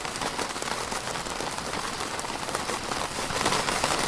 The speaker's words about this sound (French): La pluie sur une tente. Sur une tente.